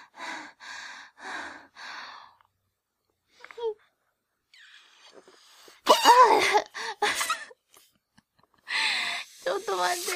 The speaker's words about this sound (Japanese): なんかパッケージに口で膨らませないでくださいって書いてあるけど大丈夫だよね。やってみる。また肺活量がちょっとはぁはぁ言っちゃったからうまく膨らませられるかな。